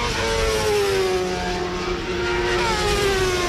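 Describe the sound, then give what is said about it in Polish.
Rallycross cars race at the Poznań car racing track in Poland during the Polish Rallycross Championship, engines roaring continuously and loudly, their pitch sliding down as cars sweep past, over a steady wash of crowd and track noise. No one speaks. “Właśnie takie zawody od piątku do dzisiaj odbywały się na samochodowym torze Poznań.”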